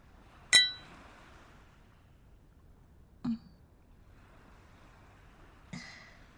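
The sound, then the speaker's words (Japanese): Glasses of local liquor clink together in a toast on a farewell night, three bright, ringing chinks spaced a few seconds apart, the first the loudest, with a quiet murmur between them and no talking. “別れの夜に、そして永遠の夜に乾杯。”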